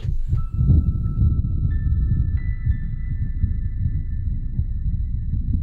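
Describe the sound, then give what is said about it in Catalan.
A rapid heartbeat of tachycardia from a film trailer thumps in dense, fast low pulses throughout, while thin steady electronic tones hum above it; no one speaks. “Tornem és que a Luigi li han tret una taquicardia.”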